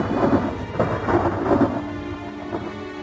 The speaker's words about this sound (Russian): Бешеный вихрь возмущенного чувства бушевал в нем, а в окно угрожающе стучал дождь, и дом весь вздрагивал от ударов грома.